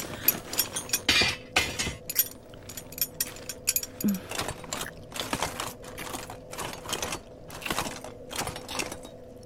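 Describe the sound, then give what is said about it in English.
A knight's metal armor being removed, all of it, with a steady run of irregular clinks, clanks and light rattles as plates and buckles shift and knock together. Several sharper clacks stand out, and nobody speaks. “Get this armor off. All of it.”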